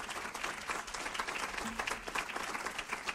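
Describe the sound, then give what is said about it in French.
An audience applauds steadily to thank the speakers, a dense wash of many hands clapping at once, fairly loud and sustained without a break and with no voices over it. “Je vous propose d'applaudir nos intervenants, les remercier.”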